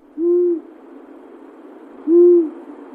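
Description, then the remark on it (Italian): Two short, clear monosyllabic whistled notes of a Eurasian scops owl, evenly spaced about two seconds apart, each a pure metallic tone with faint harmonics over a soft, steady background hiss. “Il canto dell'assiolo è monosillabico, con tonalità metalliche che lo rendono molto diverso dal gufo comune, che pure ha una vocalizzazione con una struttura monosillabica ma molto più cupa.”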